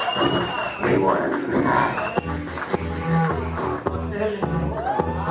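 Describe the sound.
An audience applauds and cheers in a steady, loud wash of crowd noise, with a few whoops, scattered sharp thumps, and voices mixed throughout.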